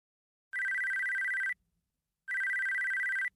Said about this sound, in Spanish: Está sonando mi teléfono. ¿Dónde estará? ¿No está en tu bolso? Pues no. Ah, aquí está. Debajo de los documentos.